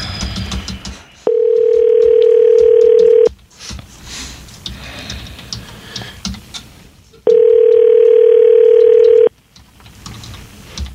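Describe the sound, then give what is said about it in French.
A telephone ring-back tone sounds twice: two steady, loud, mid-pitched beeps about two seconds each, separated by a pause filled with faint background noise. “T'as mon petit son de bip, Adam.”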